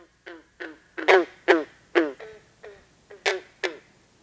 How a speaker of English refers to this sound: Or the call of a green frog. Sometimes compared to the twang of a banjo string.